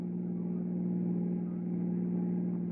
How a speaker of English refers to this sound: And as the car crossed the border, the police started to close in.